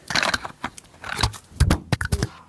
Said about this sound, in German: Jetzt ist mein Mikrofon runtergefallen